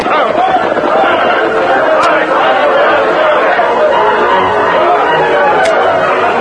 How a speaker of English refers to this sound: They were just entering the town when they saw smoke pouring out of the building and a crowd of people running with pails of water.